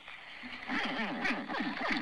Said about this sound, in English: Do you want to hear a crocodile barking?